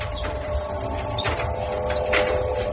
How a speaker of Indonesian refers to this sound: aku mendengar suara keranda yang didorong di luar kamar. Aku bertanya-tanya dalam hati, kenapa kerandanya lewat sini lagi? Perasaan arah kamar mayat bukan kesini.